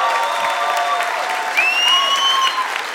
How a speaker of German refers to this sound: Da ist er. Oh. Komm, ein Applaus